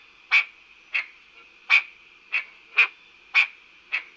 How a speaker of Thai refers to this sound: และนี่ก็คือเสียงของเขียดค่ะ